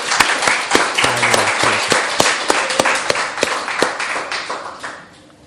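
A crowd claps hands steadily for several seconds in thanks to Jesus after a team led worship, with sharp, regularly spaced loud claps standing out over a dense wash of applause that fades at the end.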